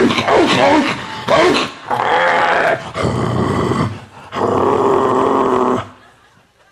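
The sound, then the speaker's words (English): A German Shepherd dog growls and snarls in four harsh, rasping bursts of a second or so each, loud, with brief pauses between them before it trails off into quiet. “You know that nasty like German Shepherd all day.”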